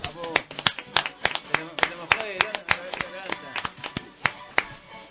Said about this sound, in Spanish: Bueno, vamos a dar un aplauso a gente que no está. Como esté, si nos estás oyendo, este aplauso.